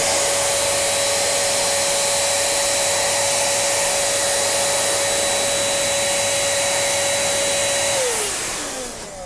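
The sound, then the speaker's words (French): A steady, loud electric air blower, used to blow dust off a computer's RAM, motherboard and fan, roars continuously with a constant high whine, then winds down at the end as its pitch drops away. No voices. “Non, avec l'air que ça envoie, normalement vous devriez peut-être entendre le ventilo qui tourne, je sais pas si vous êtes assez près.”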